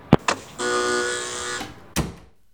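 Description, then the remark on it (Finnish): A door with an electric lock is opened at a doctor's reception: two sharp clicks, a steady electric buzz lasting about a second as the lock releases, then a solid clunk as the door swings, with no voices. “Avaan oven, tervetuloa.”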